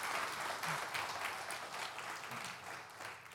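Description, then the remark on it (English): A church audience applauds steadily for a few seconds, a dense, even wash of many hands clapping at once with a few faint voices mixed in underneath, giving a hand to the people who took the brunch. “Let's give the ladies and the fellas who took the brunch a great big hand.”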